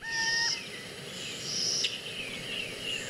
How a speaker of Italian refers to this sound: Lo sentite questo canto? È la civetta, l'animale sacro alla dea.